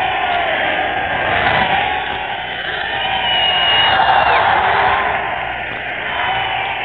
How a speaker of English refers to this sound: They've stampeded round the car. People have mysteriously appeared from everywhere. They've crowded round it. They're cheering. They're waving. They're giving a terrific cheer to him.